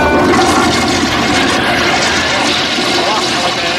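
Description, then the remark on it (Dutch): A toilet flushes with a loud, steady rush of water that fills the whole moment, continuous, with some voice-like murmur blended underneath. “Uit de pot ja, komt ja, komt uit de pot, ja. Doortrekken!”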